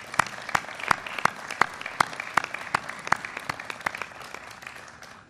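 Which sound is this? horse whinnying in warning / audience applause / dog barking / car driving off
audience applause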